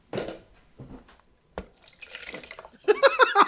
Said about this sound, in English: Oh, no. Poured it out into a bucket. I'm done with this. I do not like this. I'm not interested. He had a bucket ready.